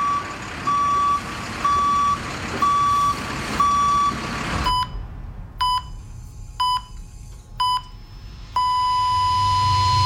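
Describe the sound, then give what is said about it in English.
A vehicle's reverse alarm beeps steadily on a construction site, first four evenly spaced tones over rumbling engine noise, then a sharper series of beeps ending in a long continuous tone. “Every time a vehicle backs up on a construction site, there are risks.”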